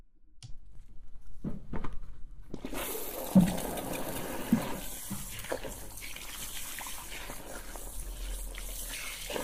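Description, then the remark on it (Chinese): A few clunks and a faint hiss, then at about three seconds a broad rush of shower water from a water heater starts as the water is turned on to rinse hair, and keeps flowing steadily, with occasional knocks and splashes. “好，那我们开水冲头发了。”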